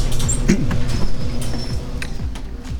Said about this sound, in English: All right, so let's close the garage door and go back inside here.